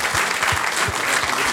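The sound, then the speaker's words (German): A short burst of audience applause for the association (Verein), dense and steady clapping from a group of people, fairly loud throughout the brief moment with no voices standing out. “Kleiner Applaus und für den Verein.”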